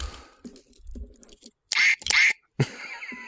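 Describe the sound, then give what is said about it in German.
A squeaky toy duck quacks twice in quick succession, loud, followed by a third shorter squeak, with soft handling and rustling noises before it. “Ich hab noch eine Ente, warte.”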